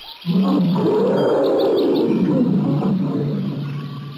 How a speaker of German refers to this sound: Siehst du, jetzt sind die Wölfe sauer.